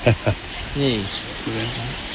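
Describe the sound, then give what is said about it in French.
Steady tropical rain of huge drops, almost like hail, patters on a thatched roof in a constant soft hiss, while voices talk briefly over it after two short thumps at the start. “La pluie arrive sur les chaumes.”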